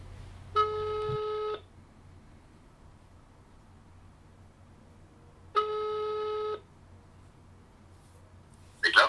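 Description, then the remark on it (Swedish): Two long ringback tones from a phone line, each about a second long and spaced several seconds apart, heard clearly over a quiet background with a brief burst of noise at the very end. “Så vi tar och ringer upp den här.”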